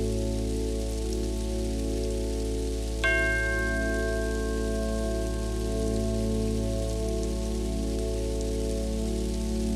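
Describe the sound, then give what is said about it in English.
A meditation bell is struck once, its clear, bright ringing tones slowly fading over several seconds above a steady low drone and soft rain-like hiss. No one speaks. “Allow colour changes to continue, infusing your whole body with the bold vibration of a new colour each time you hear the bell.”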